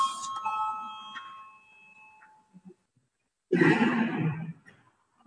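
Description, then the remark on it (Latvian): A bright electronic parliament voting bell, rung before a vote on Finance Minister Reirs's second proposal, rings out with sustained tonal strikes that decay over about two seconds, then after a short pause a burst of murmuring and shuffling noise rises briefly. “Lūdzu zvanu, balsosim par otro finanšu ministra Reira priekšlikumu.”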